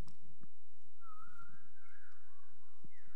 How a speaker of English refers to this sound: Oh yeah, let's bring that whistling back. Because that was such a cool thing.